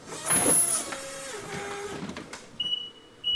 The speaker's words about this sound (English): Godlin's using a forklift to move sageflower honey around his warehouse.